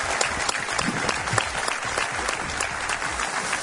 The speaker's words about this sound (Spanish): Gracias, un aplauso para vosotros, muchas gracias.